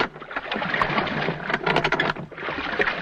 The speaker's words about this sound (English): The lap of the water is created by using a splash box. This is a tank of water with a paddle in it, which is turned slowly to produce the sound of rowing. The squeak of the oarlock was made by using a squeak box